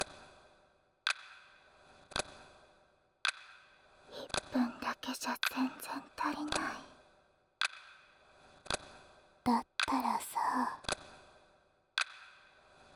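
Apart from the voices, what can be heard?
clock ticking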